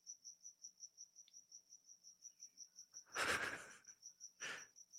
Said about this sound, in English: These are, oh my God. It's so annoying? Loud, dude. It is so. This is the loudest cricket I've ever heard in my life, dude. It is loud. I don't know where he is.